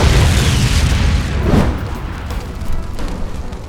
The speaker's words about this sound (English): The fuel line had to have been punctured by either the blast or all the lead he'd poured over the vehicles, but a secondary explosion ignited.